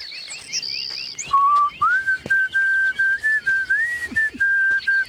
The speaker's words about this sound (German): Du kannst dann schön pfeifen.